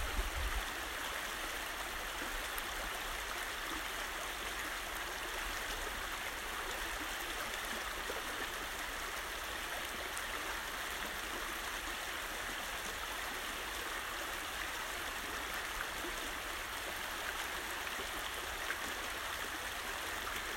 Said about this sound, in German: Also nimm dir die kommenden paar Minuten, während du dem Wasserlauf zuhörst, dich mit deiner Weisheit verbindest, deinen Lehrern zu danken.